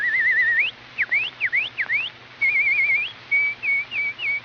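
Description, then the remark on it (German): A person whistles sparrow-like calls: a warbling trill, then a series of quick rising chirps, followed by short wavering trills, fairly loud and clear with no talking. “Jetzt versucht Herr Spatz, sie zum Kosen zu locken.”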